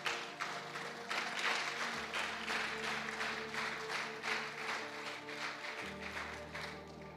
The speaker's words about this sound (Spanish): Le voy a pedir, le dé un fuerte aplauso a Dios.